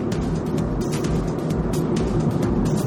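Steady interior road noise from a car driving along a farm road on a Saturday morning around 8:30, with few oncoming cars; a continuous low rumble of engine and tires with faint intermittent ticks and rattles, no talking.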